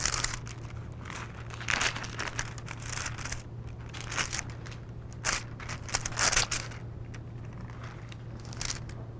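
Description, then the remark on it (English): Pages of a book are thumbed through while looking for the Book of James, a string of quick papery flicks and rustles at an uneven pace, with a steady low hum underneath and no talking. “I thought I had a little piece of paper stuck out. I've got to thumb through here.”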